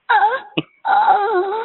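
A person moans in two long, drawn-out vocal stretches with a wavering, sliding pitch, broken by a short pause and a brief catch of breath between them.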